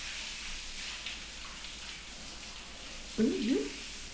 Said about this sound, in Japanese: ああ、ごめんなさい。シャワーの音が聞こえなかった？